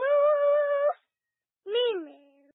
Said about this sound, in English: How do cows say hello? They can't talk, can they? But in cow language, they say hello by mooing. What does that sound like?